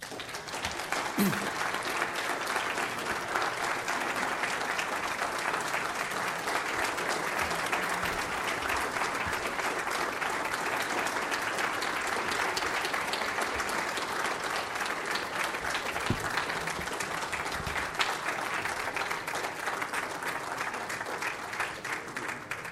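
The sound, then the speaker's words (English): A large crowd gives a long, sustained standing ovation after a speech, dense clapping that stays loud and steady for over twenty seconds without fading, with no one speaking over it. “We seldom, if ever, get a standing round of applause for a speech like that, like any we've had here, so that shows you how much it's appreciated”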